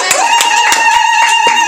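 An audience applauding, with sharp, irregular claps over a steady high tonal drone that holds throughout. The clapping is fairly loud and sparse rather than a dense roar, with no talking.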